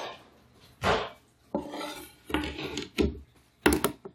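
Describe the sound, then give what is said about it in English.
A Y peeler scrapes along a butternut squash in about five rasping strokes, each a short, bright scratchy burst with uneven pauses between. No one talks. “Now I get to peel this bad boy. I think it's called like a Y peeler. A Y vegetable peeler.”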